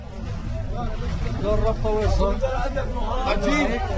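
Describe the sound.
A dense, chaotic crowd of many voices in a bread queue talks and shouts over one another, a steady, loud babble with a low rumbling undertone throughout; the queue stretches around a street corner in a city.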